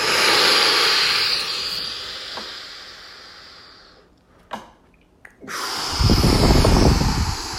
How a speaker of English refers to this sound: just take a deep goddamn breath. Do it. Seriously, just do it. Unless you can't. Like if you're on the train, I get it. But if you can do it, do it. Deep breath in.